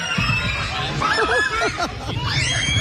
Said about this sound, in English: Hey, children are screaming and you're laughing.